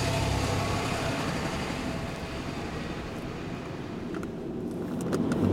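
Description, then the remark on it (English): A commuter's car drives along in morning rush-hour traffic. Its engine and road noise form a steady, loud, low rumble that swells slightly near the end, with no one talking. “So, like a lot of commuters, I head for my car, knowing it will not be pretty.”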